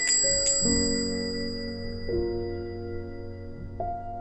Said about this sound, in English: A bell jingle-jangled, announcing his presence, and Kelly glanced his way with a friendly smile.